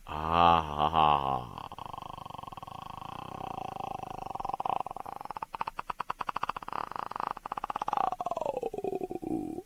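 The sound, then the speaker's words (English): A man makes a long, loud throat-clearing growl that imitates a roar, opening with a brief voiced groan before breaking into a gravelly, rapidly pulsing rattle that lasts several seconds. “I've been working on that sound to try to clear my throat.”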